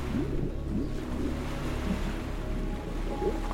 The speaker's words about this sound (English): You watch with disbelief as the lake expands, pouring up and over a dune until the mound is gone. Then the waters continue to rush on, stretching out to the horizon.